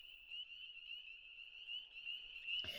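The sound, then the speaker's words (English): A steady chorus of frogs calling, a high, shrill trilling that runs unbroken and fairly soft, ending with a brief sharp click. “Now the frogs.”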